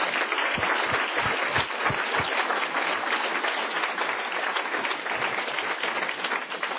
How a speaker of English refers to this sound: And with that, we will excuse our panelists. Please give them an applause.